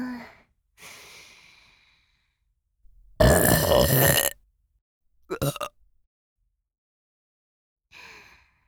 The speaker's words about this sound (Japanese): くくく、こうやってお主に密着してるとゲップがしやすくて助かるの。ほれ、こっちの耳にも。